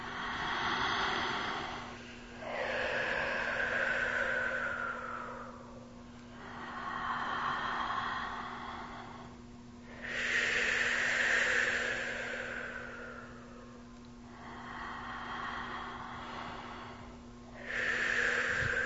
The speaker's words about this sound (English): And if you're comfortable, close your eyes and let's do a little more of this diaphragmatic breathing.